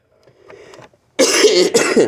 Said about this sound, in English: Excuse me. Can't talk and cough at the same time, and I tried.